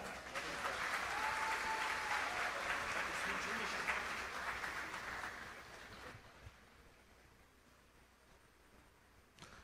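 An audience bursts into sustained applause, a dense wash of many hands clapping that holds steady for several seconds before gradually thinning and fading out.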